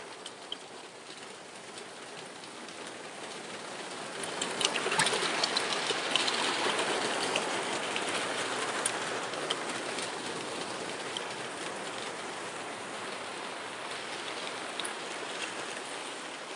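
Steady rain from a rainstorm patters and hisses on a back porch, swelling a little heavier after a few seconds and then holding a dense, even downpour to the end, with no voices.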